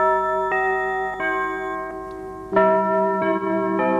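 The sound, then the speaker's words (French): The hourly carillon chime of the radio station Europe numéro 1, heard every hour from April 1955, rings out a short melody of about six bell notes, each struck at a steady pace and left to resonate into the next, loud and clear with no voices. “Désormais, toutes les heures, on entend le carillon.”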